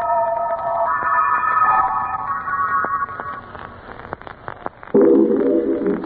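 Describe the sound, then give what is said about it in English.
Spooky music with an echo chamber effect: eerie, wavering sustained tones layered over one another with a reverberant, echoing quality, thinning out midway, then a sudden louder, buzzy chord near the end. No one speaks. “Please bring me the spooky music and a little echo chamber.”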